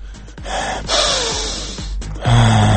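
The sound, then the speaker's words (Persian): A single loud, drawn-out deep breath, a long airy inhale of roughly a second, followed by a short exhale with a low hum, with no one speaking. “نفس عمیق میکشم.”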